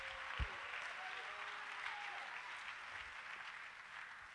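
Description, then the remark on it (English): An audience claps their hands to the Lord during a sermon in a steady, dense wash of applause that holds at an even level throughout, with a few faint tonal traces and a brief thump near the start. “Just clap your hands to the Lord for a second.”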